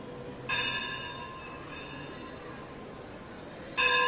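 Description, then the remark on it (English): A bell is struck twice, about three seconds apart; the first clear, metallic ring lingers and slowly fades before the second strike sounds near the end, over a quiet background with no talking. “after the bell you can tell.”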